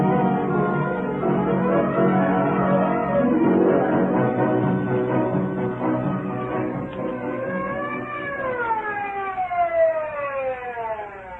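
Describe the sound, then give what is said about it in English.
An ambulance siren wails loudly and steadily, its pitch sweeping up and down in long slow arcs that grow clearer toward the end, with no voices over it. “Twenty minutes later, the ambulance arrived.”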